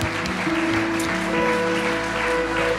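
An audience at a German-language Christian service applauds steadily for those who have just made a decision for Jesus, a dense wash of clapping that holds at an even loudness throughout, with sustained low musical notes like a keyboard playing underneath.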